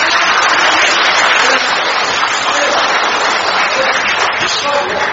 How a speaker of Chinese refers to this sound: 鼓掌。